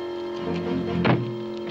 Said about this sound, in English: On the street, a big wood-paneled car pulls up with a six-point buck strapped to its hood. As MacReady tries to walk past the car, the passenger door opens and the burly cowboy steps out, blocking his path.